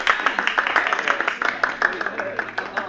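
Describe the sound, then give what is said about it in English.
Scattered applause from a small tennis gallery after a player hits an ace, with many overlapping claps in an uneven, steady patter that keeps going for a few seconds at moderate loudness. “I joined in the gallery applause.”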